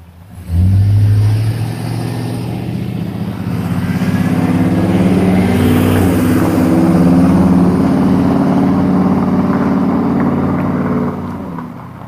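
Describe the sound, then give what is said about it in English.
A loud, rumbling truck engine swells in and holds steady for several seconds before fading as the truck drives past on a sunny morning, its low droning harmonics filling the scene with no voices. “Noisy truck.”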